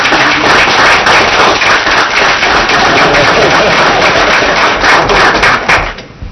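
A crowd applauds loudly and steadily at a meeting, in recognition of work on a highway rebuilding project; dense clapping continues for several seconds before quickly tapering off at the end.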